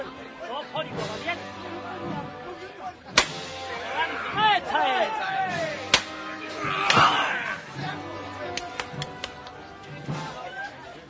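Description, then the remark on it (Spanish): Two sharp metallic knocks from the hammer knocker of a paso de palio procession float decorated with white roses ring out a few seconds apart over a murmuring crowd and scattered voices. “Vuelve a sonar el martillo.”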